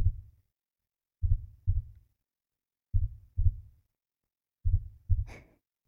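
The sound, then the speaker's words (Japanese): A slow, muffled heartbeat thuds, its deep lub-dub pairs arriving at an unhurried, even pace as it gradually calms down, with a soft breathy rustle over the final beat. “ほら、だんだん鼓動が落ち着いてきた。”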